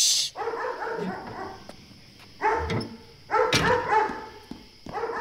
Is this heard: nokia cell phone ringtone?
no